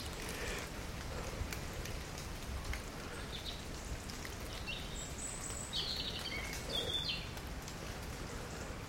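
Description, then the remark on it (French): Steady patter of water drops falling on leaves, a dense, even crackle throughout, with a few faint high bird chirps briefly breaking through partway. “Les gouttes d'eau qui tombent sur les feuilles nous invitent à écouter ces murmures, à les laisser entrer en nous.”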